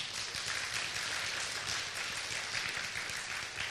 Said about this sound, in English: Beloved brothers and sisters, hey, yeah, let's give them a clap.